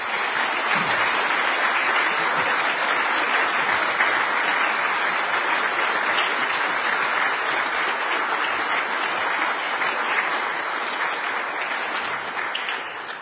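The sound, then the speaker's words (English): A large crowd applauds steadily after a speech, a dense, loud wash of many hands clapping that holds evenly for about thirteen seconds before easing slightly at the end, with no voices. “That applause was for your speech, not for me walking up on the stage.”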